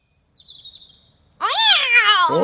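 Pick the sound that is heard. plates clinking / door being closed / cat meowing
cat meowing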